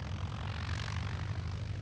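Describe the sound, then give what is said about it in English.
A propeller airplane engine drones steadily, a constant low rumbling hum with a broad rushing noise over it, holding even in loudness throughout. “Now back to airplanes.”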